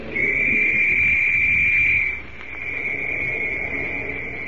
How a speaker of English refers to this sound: Shrill and sharp, the whistle rings through the valley